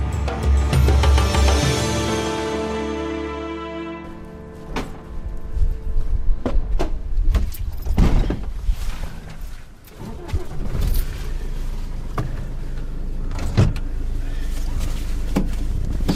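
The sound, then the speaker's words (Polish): Inside a car that its owner uses as a work office: a steady low hum and tonal whine at first, then a run of sharp thuds, clicks and rattles, like doors and fittings being handled, over a constant background rumble. “Tak, to jest naprawdę mój samochód. To jest moje biuro”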